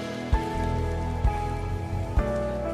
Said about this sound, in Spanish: Denles un buen aplauso a todos esos que se pusieron de pie.